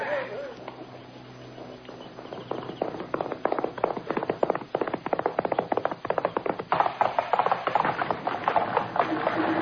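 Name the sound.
horses galloping away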